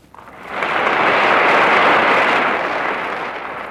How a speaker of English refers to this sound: When Governor Stevenson had finished his talk, he returned to his chair on the speaker's platform, but he had to stand again to acknowledge the applause of the overflow audience in Huff Gymnasium.